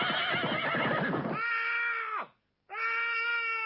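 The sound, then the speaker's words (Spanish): A horse neighs loudly and shrilly, its cry falling off before a brief silence and a second whinny. Rapid rhythmic thudding like galloping hooves sounds under the opening; a sound effect of a horse galloping. “Por un lado están los efectos concretos, que es eso que ves, caballo cabalgando, esos gritos.”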